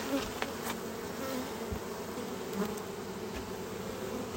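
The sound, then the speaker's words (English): A honeybee buzzes steadily on a beekeeper's veil, its droning hum wavering in pitch over a low background hum, with no talking. “More likely to sting and stung me in the face the other day through my veil. I got one on my veil right now.”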